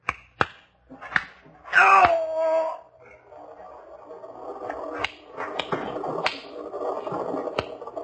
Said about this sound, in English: Nice shooting, Ryder. Knocked back his gun right out of his hand.